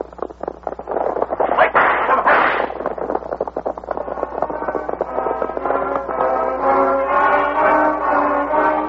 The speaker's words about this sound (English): Fusillade, Will Buckley dropped from his horse, shot to death.